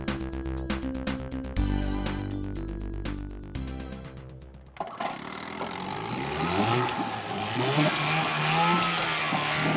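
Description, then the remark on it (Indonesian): A motorboat carrying passengers on the Kapuas River in Kalimantan chugs with a steady, pulsing engine drone, then shifts into a louder, rougher roar whose pitch wavers up and down. No one speaks. “ketika mereka menaiki perahu di Sungai Kapuas di daerah Kalimantan.”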